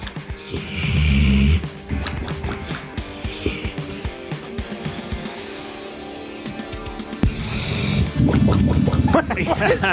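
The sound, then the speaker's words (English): A big dog snores loudly in heavy, rasping breaths, each inhale ending in a wet, bubbling gurgle like water churning in a pipe or a bong hit, repeating twice over the stretch; a video sent in from Iowa. “This is a dog snoring, and then you get, sounds like a bong hit.”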